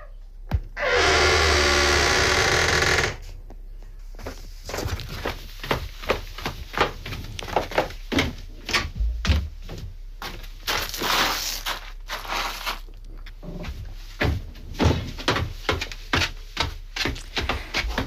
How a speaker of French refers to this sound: La porte se referme.